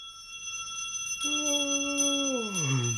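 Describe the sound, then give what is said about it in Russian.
A small silver handbell rings with a bright, shimmering tone that lingers throughout, joined partway through by a lower sustained note that slides downward near the end. No one speaks. “Как же я могла забыть про волшебный серебряный колокольчик, мамин подарок? Вот чем мы разбудим травы и цветы.”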